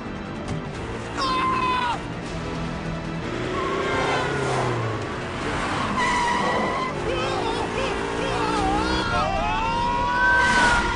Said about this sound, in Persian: به نظرتون کی پشت فرمونه که اینقدر با سرعت داره دنبالش میکنه؟